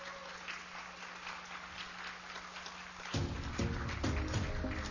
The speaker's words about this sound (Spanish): Un aplauso, por favor.